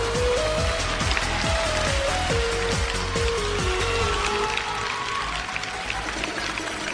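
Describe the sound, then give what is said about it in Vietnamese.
A crowd claps steadily and densely, the applause filling the whole stretch at a fairly loud level while a simple melody and a soft rhythmic beat play underneath. “Vỗ tay lên phía ở giữa chưa vỗ nè.”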